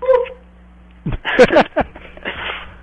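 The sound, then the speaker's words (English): A dog gives a short burst of yelping, whining vocalizations with rising and falling pitch, after a brief higher cry at the start, with a low steady hum underneath. “And then it was a dog, though. It sounded like a dog.”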